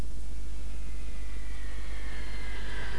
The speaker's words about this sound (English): The plane is in New York. This is a plane. The plane is in New York.